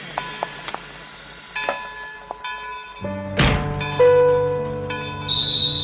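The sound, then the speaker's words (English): A train to Oslo rolling along rails, with scattered metallic clunks, a sudden loud rushing burst midway, steady humming tones, and a high whistle-like tone near the end; no voices. “Understood the urgency of the situation and jumped on the next train to Oslo to take the ferry to Copenhagen.”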